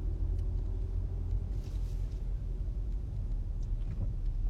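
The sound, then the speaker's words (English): A car engine rumbles as the car backs up very hard to get a parking space. It is a steady, heavy low drone that stays loud throughout, with no voices. “This car is backing up very hard.”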